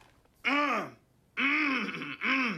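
A man at the head of a long meeting table clears his throat in three loud, rough voiced bursts, the first alone after a short pause and the last two nearly back to back, with no speech.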